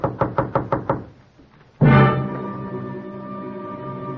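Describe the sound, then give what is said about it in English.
Five quick, evenly spaced raps of knocking on the front door of a house, then a short pause before a loud, sustained ringing tone swells in and slowly fades. No voices. “till I answer the door.”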